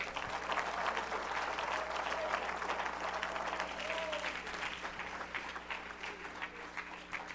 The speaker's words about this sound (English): Praise God. Somebody clap your hands.